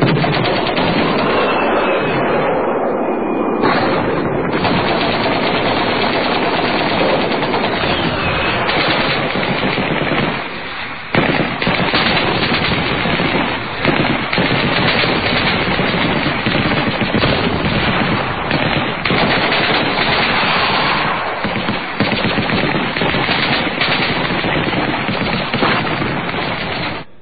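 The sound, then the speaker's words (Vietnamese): Dense machine-gun fire rattles nonstop in loud, overlapping bursts, with scattered gunshots mixed in, filling the whole stretch with no pauses and no voices, sounding all over the village of Sa Huỳnh at night. “Tiếng súng nổ ran ran khắp nơi trong làng Sa Huỳnh.”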